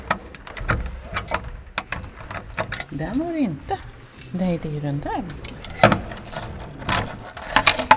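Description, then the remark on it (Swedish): A large ring of keys jangles, with frequent metallic clinks and clicks as keys are tried in the lock of a stopped walnut floor clock's case to unlock it; a person speaks briefly partway through. “Och då har jag ju väldigt många nycklar här på min nyckelknippa för nu måste jag komma underfund med vilken som hör just till den här klockan.”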